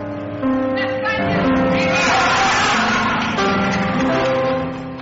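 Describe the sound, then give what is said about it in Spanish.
A large crowd of attendees at an event in Spain shouting a 'Viva España' chant in unison right after the national anthem, loud and sustained, the massed voices holding pitched, drawn-out tones for several seconds before easing off at the end. “Los acordes del himno nacional y el grito de Viva España de todos los asistentes ponían el broche de oro a un emotivo acto del que muchos deberían tomar buena nota.”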